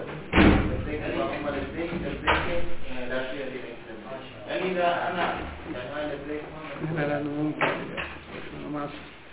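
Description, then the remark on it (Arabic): A door bangs shut with a sharp, loud thud as latecomers enter during a lesson, followed by a few more knocks and clunks from the door over the next several seconds while a man keeps talking, his voice echoing. “باب منا بعد. أرجو من الأخوة يجون على رأس الدرس يعني حتى من بعد.”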